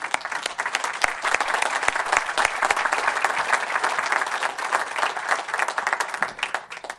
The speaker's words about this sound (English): It's an exciting thing for the city, but this is just to go to show how warm and welcoming everybody is here in the state and in the city. So I'd like to give you guys a round of applause.